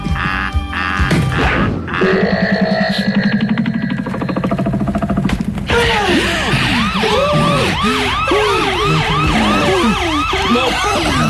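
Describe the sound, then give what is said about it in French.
Fire engine sirens wail loudly as fire engines arrive at a burning building, several overlapping rising-and-falling tones layered together, preceded by a few seconds of a rapid, pulsing electronic horn. “Les pompiers qui arrivent, comment on descend du toit, là?”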